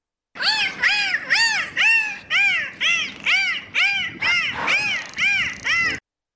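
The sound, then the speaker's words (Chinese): A dolphin calls from the sea surface in thick fog in a rapid series of about eleven squeaky, rising-and-falling chirps. The calls are loud and repeat in a steady rhythm with no other sounds around them. “好似是一只海豚嚟噶。”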